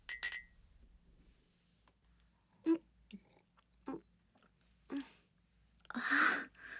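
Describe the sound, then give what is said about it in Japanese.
A quick bright clink of glasses rings out briefly in a toast celebrating passing a university entrance exam, followed by quiet pauses, a few soft gulping swallows spaced apart, and finally a breathy, satisfied exhale. “乾杯。”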